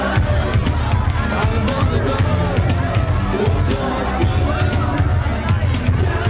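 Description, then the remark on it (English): Dense crowd chatter fills a packed, echoing nightclub, many overlapping voices at steady loudness with a thumping low rumble underneath like music bass, as patrons on a mezzanine overlooking the dance floor chat and watch the dancers below. “Up on the mezzanine overlooking the dance floor, patrons stand chatting and watching the dancers below.”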